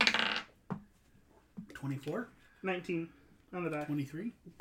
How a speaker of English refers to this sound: I rolled 2d12 to see how many teeth you could get.